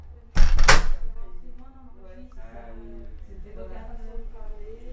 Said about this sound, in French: Porte d'entrée, voix qui chuchote ou qui rit.